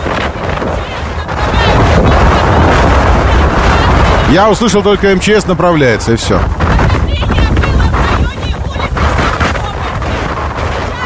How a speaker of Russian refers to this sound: Все, как будто бы его смыло. Шторм в Уютном, Судак, 26 ноября.